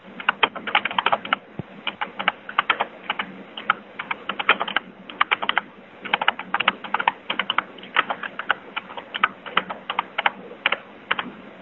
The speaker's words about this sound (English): I hear you typing